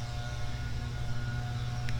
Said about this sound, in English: We got lawnmowers that you can hear. That's a domestic across the street.